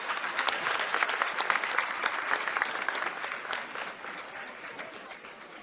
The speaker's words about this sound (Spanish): Un fuerte aplauso para Yulisa.